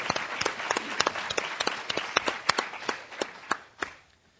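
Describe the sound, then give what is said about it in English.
A short burst of applause for representatives of nation states, congratulating Ghana: sharp, uneven claps from a small group, with no one talking, tapering off and fading out after about four seconds. “Ghana's representative could not be here tonight, but I just wanted to take a moment and applaud for any of those representatives in nation states.”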